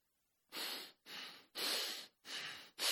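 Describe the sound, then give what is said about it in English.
A person imitates the heavy, angry breathing of the anger of God, the flaring of the nostrils, with forceful snorts through the nose: five loud bursts in a quick, steady rhythm, with no talking. “The heavy breathing of the anger of God.”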